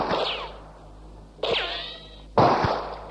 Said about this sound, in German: Sie schießen! 4, 5, 6 Schüsse! Das ist ja eine richtige Schießerei!